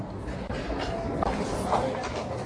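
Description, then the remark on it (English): A Paris metro subway train rumbles steadily with a dense low roar and faint metallic squeals, loud, with murmuring voices beneath. “To cover more territory, traffic, and stress-free, I ride the subway.”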